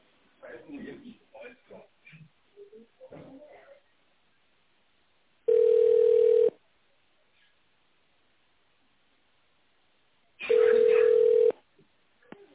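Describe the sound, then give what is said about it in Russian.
Over a telephone line, the automated answering message of the TPSPP office speaks briefly, asking callers to dial an employee's extension in tone mode, then two steady, mid-pitched tones sound, each lasting about a second, separated by a long silent pause, loud and even. “Если вы знаете внутренний номер сотрудника, наберите его в тоновом режиме или дождитесь ответа секретаря.”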